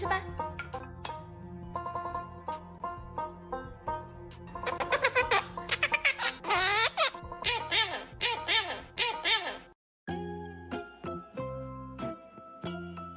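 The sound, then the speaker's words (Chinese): A small pet parrot, frightened on seeing a paper printout of its parrot companion, lets out a brief, shrill squawking cry partway through, rising and falling sharply over a bouncy background music track that plays throughout. “后来主人把他的鹦鹉兄弟也打印成了一张纸放上来，这个小鹦鹉看到纸片兄弟的那一瞬间吓得直喊救命呐。”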